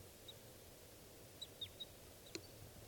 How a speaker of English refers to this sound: That's the bird flying over.